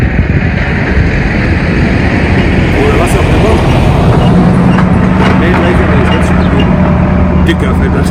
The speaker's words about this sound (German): Jetzt mache ich kurz Pause, bis der Traktor wieder vorbei ist.